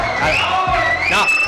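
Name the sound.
audience applause and cheering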